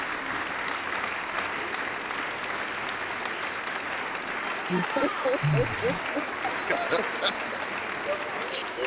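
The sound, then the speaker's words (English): Steady, dense clapping applause welcoming a first-time guest fills the whole stretch, sounding thin and muffled as if over a phone line, with faint voices briefly surfacing beneath it near the end. “Let me clap you up. We clap up all our first timers on the show.”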